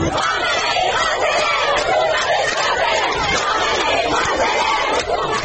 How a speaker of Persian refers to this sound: یا مثلا توی شهرک اکباتان تهران دانش آموزای دختر راه افتادن توی خیابون و اینجوری شعار دادن: جمهوری اسلامی نمیخوای نمیخوای، جمهوری اسلامی نمیخوای نمیخوای.